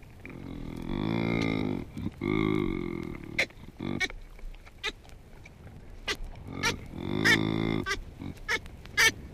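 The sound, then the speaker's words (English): Baboon calls: a male's low, drawn-out harmonic grunts, each about a second long, alternate with sharp, short clicking 'ick' calls from an infant, in two exchanges with no talking. “Here is a male grunting to an infant, and then you hear the infant icking back to the male.”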